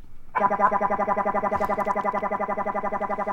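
A circuit-bent Baby Einstein kid's toy piano glitches into a loud, buzzy electronic tone that warbles in a fast, steady pulse, kicking in abruptly and droning on without a break.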